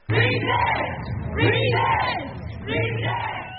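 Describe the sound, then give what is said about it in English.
Hundreds of protesters in Denver, protesting the annual meeting of the American Legislative Exchange Council (ALEC), loudly chant "Resist!" three times in a steady rhythm, each shout swelling and fading with a brief pause between them, many voices blending together. “Now, for more on ALEC and why these protesters are yelling resist and are very upset, let's turn to Anya Kamenetz from the NPR Ed team.”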